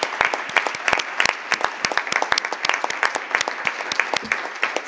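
An audience claps steadily, many hands producing a dense, continuous patter of applause at moderate loudness, with no voices heard over it.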